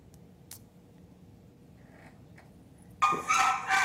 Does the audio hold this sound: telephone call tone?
no